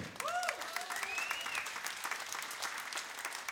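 An audience applauds in a dense, steady wash of clapping that continues throughout, with a few whistles sliding up and down early on, opening the 4th "Raznye Lyudi" (Different People) charity festival.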